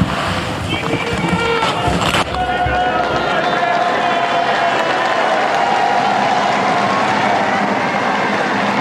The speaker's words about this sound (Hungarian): A megszokott köszöntés, illetve taps, az nem maradt el ma sem. Így köszönik meg a Szent Péter téren jelenlevő zarándokok Ferenc pápa áldását, az ő tanítását.